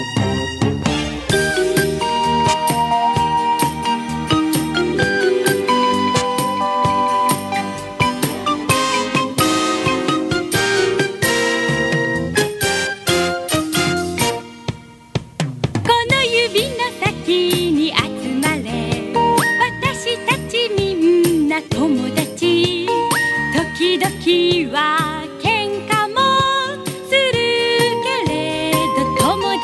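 A children's TV show song plays: a bright, busy instrumental passage with lively melody and steady beat, briefly dropping out midway before the full band comes back in. No voices are heard.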